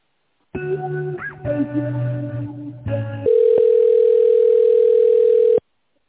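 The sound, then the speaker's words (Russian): A phone line while a call is being transferred to someone more knowledgeable: a few short buzzy electronic tones, then one long, loud, steady mid-pitched telephone tone that holds for about two seconds and abruptly stops. No one speaks. “Давайте я вас сейчас соединю с человеком, который более в этом деле разбирается.”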